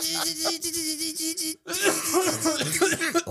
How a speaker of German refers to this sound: Meine Güte. So, und bevor ich jetzt noch weiter huste, wünsche ich euch noch einen wunderschönen Tag.